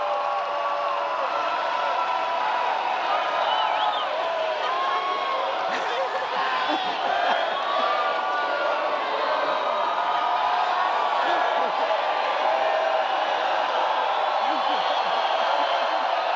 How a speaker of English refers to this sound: Crowd in Dayton, Ohio, singing happy birthday to John McCain. As mentioned earlier, this is his 72nd birthday.